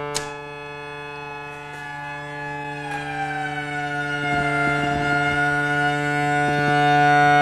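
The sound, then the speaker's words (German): A sustained buzzy synthesizer tone made of two sawtooth oscillators, each switched in by setting a pin, with adjustable pitch, rich in evenly stacked harmonics, with a second pitch sliding in and slowly beating against the first; steady and moderately loud, no voices. “Und der zweite Stift schalte einen weiteren Sägezahn-Oszillator hinzu.”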